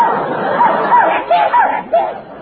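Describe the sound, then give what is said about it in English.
An Irish setter named Nicky yelps and whimpers in a quick run of five or six short, high-pitched barks over a steady murmur of background noise. “He's an Irish setter.”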